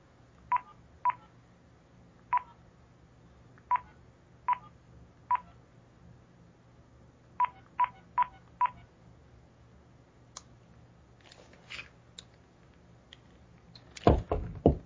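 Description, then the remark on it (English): A phone number is dialed on a keypad: a series of short, clear DTMF beeps in uneven clusters, followed by some handling clicks and clatter near the end. “And I'm going to dial this number and see what I get.”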